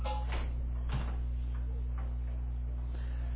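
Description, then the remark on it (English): A door is opened, giving a few soft, scattered clicks and knocks over a steady low electrical hum, with no one talking. “Can I get that door for somebody trying to peek their way through?”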